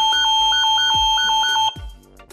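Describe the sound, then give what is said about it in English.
A Nest Secure home security alarm, set off when a sensor detects motion while the house is armed, blares with a loud, steady electronic tone pulsing rapidly, then cuts off abruptly, leaving a faint lingering hum. “If you're not at home and the house is armed when the sensor detects motion, you'll get an alert to your phone and the alarm will go off, alerting your security monitoring service.”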